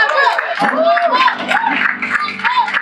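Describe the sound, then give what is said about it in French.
An audience applauds with cheering voices mixed in, a dense, steady wash of clapping and shouts that stays loud for about three seconds. “Mais ce que j'ai entendu, merci, ce que j'ai entendu de la part de Dieu, ça a été différent de vos applaudissements.”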